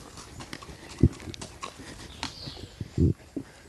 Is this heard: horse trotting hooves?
yes